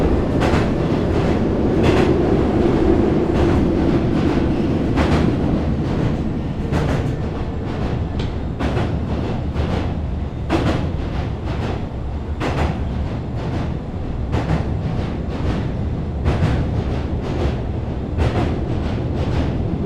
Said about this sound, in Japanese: この電車は福岡天神行き急行です。次は宮野陣です。宮野陣の次は小郡に行きます。